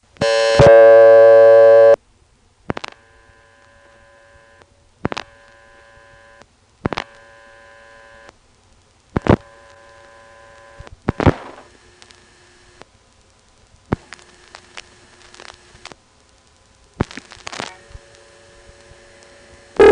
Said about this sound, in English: From Ladysmith, we heard the Bowling Green supervision test three times.